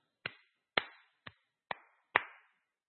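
Five sharp hand claps, hands put together to demonstrate clapping, in a slightly uneven rhythm, each a crisp smack with a short ringing tail, with silence between and no voices.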